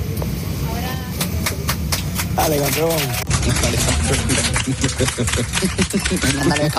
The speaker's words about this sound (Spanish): Bueno, esto que acabas de escuchar son los aplausos de todos los pasajeros cuando al aterrizar en Cancún